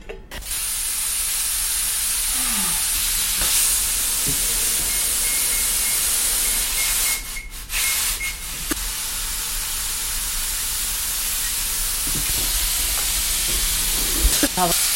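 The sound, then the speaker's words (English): A Lagostina Indian-style pressure cooker on a stovetop whistles away after building pressure for about 10 minutes, with a long, low, steady rush of hissing steam that runs unbroken for the whole stretch, briefly dipping midway before resuming, with a faint thin tone riding on top. “If you're using an Indian style pressure cooker, this is a Lagostina. It gives a long, low kind of whistle.”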